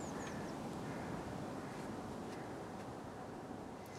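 A bird gives a few quick, high, falling calls at the start, fairly faint, over a steady wash of outdoor background noise; nobody speaks.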